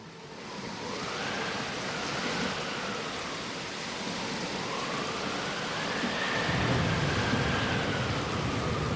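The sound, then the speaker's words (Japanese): Heavy rain of the rainy season pours down in a steady, dense hiss. Around two-thirds of the way through, a deep rumble of thunder swells underneath and keeps rolling to the end. “大雨の降る季節になった。”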